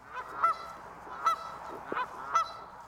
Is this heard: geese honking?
yes